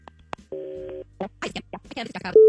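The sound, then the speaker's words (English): A telephone call being placed on KDWB radio: a click, then a steady half-second dial tone, followed by muffled, voice-like bursts on the line and a new steady tone cutting in at the end. “We'll do that after we make the phone call, and we'll make the phone call right now on KDWB.”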